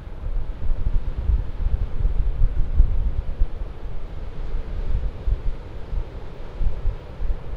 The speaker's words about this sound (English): You know, it's interesting. I don't know how much of that is wind, how much of that is ocean, but it's never ending.